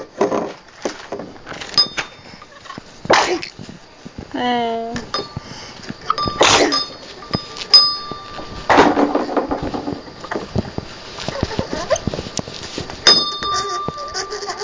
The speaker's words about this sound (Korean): 저기 종 보여? 종 있지 종. 은색 종 있네. 띵공 띵공. 흔들어 봐. 연두색 손잡이 잡고. 어. 땅땅땅 소리 나지?